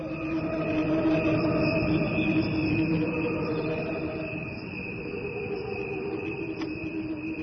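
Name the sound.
crickets chirping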